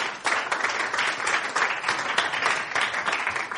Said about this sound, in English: Let's give her a round of applause, shall we?